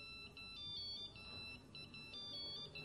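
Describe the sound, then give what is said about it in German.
A phone ringtone beeps in repeated bursts of high electronic tones during a confirmation church service, steady and fairly loud, over a low background rumble with no one speaking. “Dann Piepser an irgendwo. Bei euch irgendwo.”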